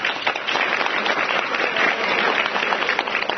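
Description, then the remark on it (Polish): Steady audience applause after the introduction of a retired school director from Orneta, a dense, continuous patter of many hands clapping at an even loudness throughout, with no voices standing out. “Brawa.”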